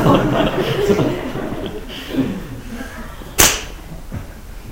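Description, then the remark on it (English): A single sharp slap cracks out loudly after a stretch of soft murmuring and quiet chuckling, then the low background chatter carries on. “he was the one who used to slap people.”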